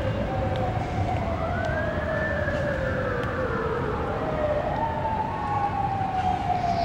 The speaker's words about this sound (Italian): E questa è la metropolitana di New York, il suono della metro di New York.